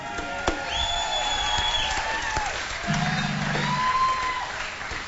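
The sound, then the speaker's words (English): An audience at a live concert applauds the band's horn section steadily for several seconds, a dense wash of clapping with a few cheers and whistles rising over it, holding fairly even in loudness throughout. “How about a hand for him, everybody?”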